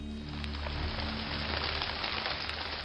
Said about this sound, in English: Heavy raindrops began to pelt them from above. Soon, the path became muddy.